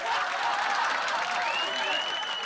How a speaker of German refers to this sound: Das Publikum klatschte, jubelte, lachte.